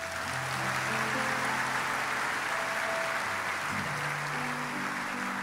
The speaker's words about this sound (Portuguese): Vamos lá, você pode dar um aplauso?